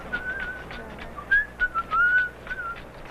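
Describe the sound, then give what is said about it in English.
A healer whistles a soft, wavering melody of short rising and sliding notes during a healing ceremony in the dark, with faint rattling clicks from a handheld rattle and background hiss underneath, with no talking. “He not only rattled, but he whistled.”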